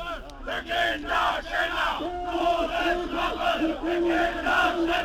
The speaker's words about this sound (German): Die Männer und Frauen, die hier nach der Todesstrafe für Kinderschänder rufen, scheren sich nicht um unsere Grundwerte.